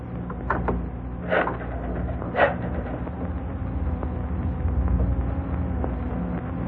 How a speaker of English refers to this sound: Better open the door a bit.